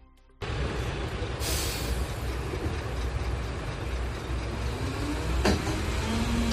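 A reinforcement garbage collection truck touring A Coruña rumbles steadily, its heavy engine droning throughout, with a brief hiss of air brakes early on and a sharp clank near the end.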